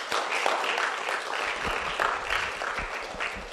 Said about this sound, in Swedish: Jag känner så här att ja, ge honom en applåd.